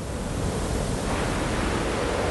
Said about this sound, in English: The Namib Desert. It's been here for over 50 million years. One of the oldest, hottest, driest places on Earth. A great sea of sand, as restless as the ocean. Like waves, sand blows in the wind.